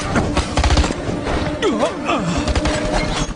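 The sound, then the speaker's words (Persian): Rapid bursts of gunfire, fired after an order to shoot, crack out across the whole stretch, loud, with shouting voices cutting in partway through the volley. “یا شلیک میکنی یا میری دادگاه نظامی. شلیک کن.”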